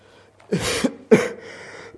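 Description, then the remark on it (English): Two harsh, loud coughs into a microphone in quick succession during a Bible talk, the first longer and rougher, the second a sharper bark, with no talking around them. “Excuse me, coughing in the microphone.”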